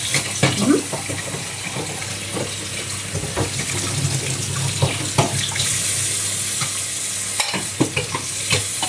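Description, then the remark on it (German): Steady running cold tap water pours into a sink while a spätzle press is rinsed beneath it, with occasional soft clinks and handling knocks; no one speaks. “Okay, also du wäschst sie halt auch jetzt gerade mit kaltem Wasser aus?”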